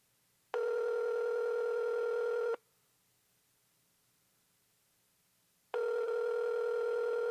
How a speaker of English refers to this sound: We'll call him back. Maybe I'll get him on the phone this time.